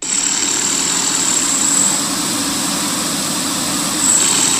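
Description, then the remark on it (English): A snoring recording, captured at 11:38 the night before by a phone's sleep-tracking feature, plays back from the phone as a low, rough, rumbling drone over a steady hiss, swelling slightly in two spots as the breaths rise. No one talks over it. “Now, what I didn't know what it did was it tracks your snoring.”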